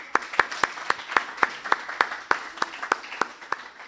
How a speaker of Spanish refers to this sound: Con un aplauso, compañeros, por favor.